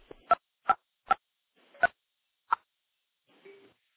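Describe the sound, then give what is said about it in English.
Five sharp mechanical clicks land at uneven intervals, crisp, followed by a faint hum or tone at the end: an electromechanical telephone switch stepping through a connection as a call is routed into it. “Now we're going to go back into another electromechanical switch.”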